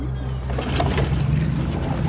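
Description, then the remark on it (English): A motorboat idles on the water, staying near a swimmer, its engine a steady, low rumbling hum that holds at an even level with faint splashing and wash around it. “The boat stays near him for half an hour, just watching.”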